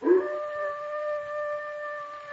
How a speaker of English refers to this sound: Listen. That sounded like a dog howling.